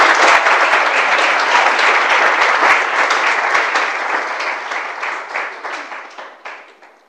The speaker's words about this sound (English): So please, let's welcome her with a big round of applause.